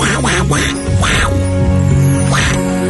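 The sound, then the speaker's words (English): A person imitates Donald Duck with a series of raspy, nasal quacking bursts, about four squawks in an uneven rhythm, loud. “These impressions are bad, and we don't have a full repertoire.”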